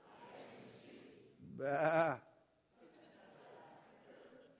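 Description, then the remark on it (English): A person lets out a single loud, wavering bleat in imitation of a sheep, lasting under a second, surrounded by a low murmur of background voices. “You got a promising future as a sheep.”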